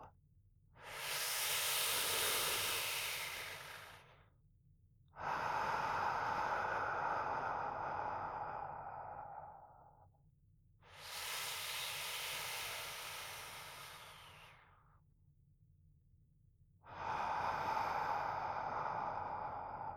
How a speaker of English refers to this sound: And remember those relaxation exercises that I taught you. Breathing in and out, slowly and deeply, like so.